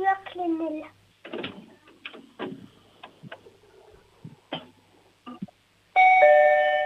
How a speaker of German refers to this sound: Wow, das ist ja eine tolle laute Türklingel.